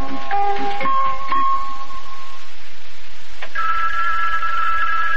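A telephone rings with a bright, bell-like tone: a first ring with a couple of sharp strikes, a pause, then a second steady trilling ring, in the program Big John and Sparky. No one speaks.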